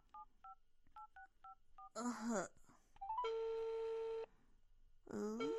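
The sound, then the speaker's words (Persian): A quick run of paired dialing beeps, then a long steady electronic ring tone on an outgoing phone call to a friend, with short bursts of a voice before and after the ring. “جواب بده دیگه”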